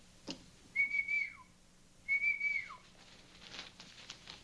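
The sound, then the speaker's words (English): Two whistles in a row, each a sustained high tone that ends with a quick downward slide, separated by a short pause. Both are moderately loud against a quiet background, with no talking. “I didn't hear any whistle.”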